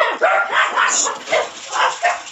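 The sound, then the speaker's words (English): Dogs bark repeatedly in a quick, uneven series of about half a dozen sharp, mid-pitched yaps, loud and continuous with no talking, sounding thin as if heard over a phone line. “You are definitely a dog person, correct? I have my little brats.”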